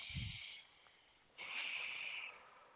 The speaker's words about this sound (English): Hello? Somebody's breathing. I can hear you.